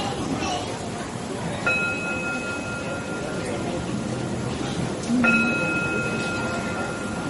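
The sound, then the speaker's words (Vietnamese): A Buddhist temple bell is struck twice, a few seconds apart. Each strike leaves a clear, sustained metallic ring that lingers over a steady, noisy background. “Cho nên mình thỉnh tiếng chuông, mình phải thỉnh không nghe, không đứng mà xem, đưa cái tiếng chuông đi lên.”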